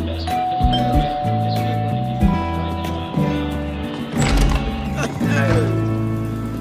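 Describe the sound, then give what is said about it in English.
A doorbell chimes at a man's home in a film scene while he watches TV, with ringing, bell-like tones, moderately loud, set against a busy layered background of sustained tones and occasional clunks. “He's at home, watching TV, awaiting the first visit from his son Desmond, whom he hasn't seen or talked to in 23 years, when the doorbell rings.”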